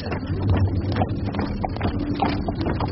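Gunfire rumbling in a continuous low roar, broken by a rapid series of dull, irregular thuds and cracks. No one speaks.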